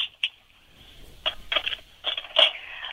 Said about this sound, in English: One thing that I've heard from people, and because I've been playing online, I can't get this, but the sound of the tiles. Yes. Can you, like, mix them around and see if I can hear it through the phone?